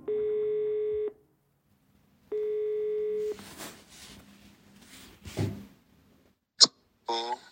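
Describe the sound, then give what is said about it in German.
Two long, steady telephone ringback tones sound about a second apart as someone at a desk at home phones a fellow researcher, followed by rustling handling noise, a sharp click as the line picks up, and a brief voice answering. “Ich telefoniere wieder”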